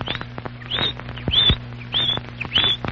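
A female canary named Chirpo chirps out the minutes of the time, 3:05, in a series of short, bright chirps spaced at fairly even intervals, heard clear over a low, steady background hum, with no talking.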